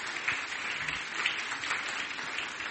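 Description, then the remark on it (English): A crowd applauds steadily for all the children who have taken part, a dense wash of many hands clapping at once, sustained and fairly even for a few seconds in a room. “Let's give everybody, all the children who've taken part, a clap.”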